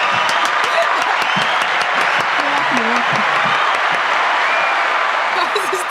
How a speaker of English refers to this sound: The clapping. Okay, it's not that serious.